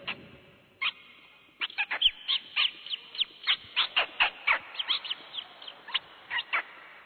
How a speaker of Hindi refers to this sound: रात पूरी हुई, दिन हुआ, पशु पंछी जल्दी उठ जाते हैं क्योंकि उनके पास इंटरनेट नहीं है, चिड़िया चहक रही है,